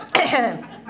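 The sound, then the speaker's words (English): A single sneeze bursts out sharply and loudly, then trails off into a breathy, voiced tail over about half a second. “Yes, bless you. Bless you.”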